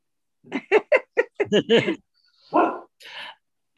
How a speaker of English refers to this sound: Now your dog's gonna make my dog start barking.